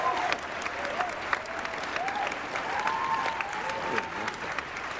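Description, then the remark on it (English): An audience applauds a trailer for an animated series that has just been shown, clapping steadily for several seconds, a dense wash of many hands at once, with faint whoops and cheers rising and falling underneath. “I think it deserves another round of applause.”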